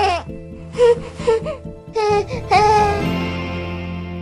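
An infant fusses with a series of short, breathy 'heh' discomfort cries in quick succession, building into a longer, drawn-out whimper at the end, fairly loud over a faint steady hum.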